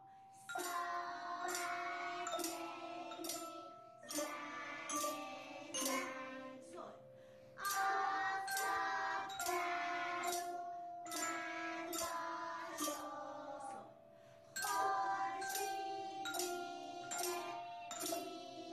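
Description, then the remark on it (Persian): A small xylophone, an Orff instrument like a small santur with colored bars of different sizes, each for one note, is struck with two round-headed wooden mallets. It plays a bright, steady melody of quick notes in repeating phrases, each strike ringing briefly over a faint sustained tone, with no one speaking. “مهمترینش هم ساز زایلوفون کوچیکه که توی ایران بهش ساز عرف هم میگن و مثل یه سنتور کوچیکه که میله‌های رنگی با اندازه‌های مختلف داره که هر کدوم برای یه نوت خاصن و با دو تا اصطلاحاً چکش چوبی سرگرد روشون میزنن و صدا تولید میکنن.”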